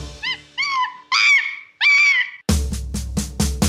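A monkey call: four loud, rising whoop-like hoots, each longer and higher than the last, followed by a run of harsh, rapid rhythmic chattering pulses. No one speaks.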